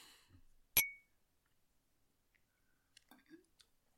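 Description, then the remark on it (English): Two glasses clink once in a toast, a sharp bright tap with a brief ringing tail. Faint whispery breaths and soft rustles come before and after amid otherwise quiet surroundings. “Well, I say that's just fine. Cheers.”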